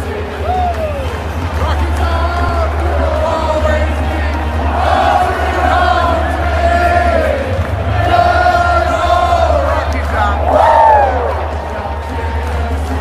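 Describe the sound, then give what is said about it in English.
A huge stadium crowd sings together in loud, rising swells as one man conducts them, with shouts and cheers breaking through a dense, echoing mass of voices. “Now, there's video to that. That's the obviously the audio. It just seems like Chase was conducting the whole thing, like the whole crowd.”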